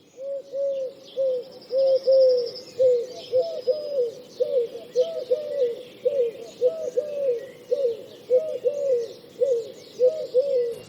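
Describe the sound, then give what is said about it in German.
Pigeons coo steadily and continuously, several low, throaty calls overlapping in a repeating rhythm, with faint higher chirps from other birds in the background. “Muss man hier unterscheiden zwischen ich möchte keine Tauben, dann darf ich auch keinen vertikalen Garten haben?”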